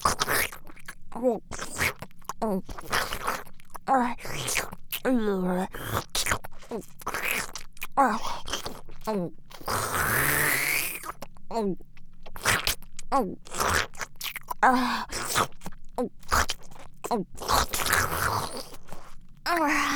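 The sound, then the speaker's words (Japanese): Wet sucking and licking sounds of oral sex repeat in quick, irregular bursts, with short slurps and smacks mixed with soft voiced murmurs and breaths throughout. “ほら、チンポしゃぶってあげるから、早く勃起させて。”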